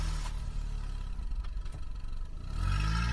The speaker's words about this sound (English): After a few more moments of shuffling, I hear the side door in the attached rec room shut, and then a car starting outside.